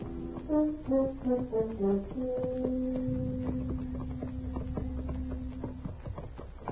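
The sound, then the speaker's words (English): Horses' hooves clip-clop at a steady walking pace as riders ride up the almost deserted main street of El Cater at noon on a hot day, with music playing over them, a short melodic phrase settling into a held tone. “It was noon of the second day when we rode up the almost deserted main street, hot, saddle-weary, and hungry.”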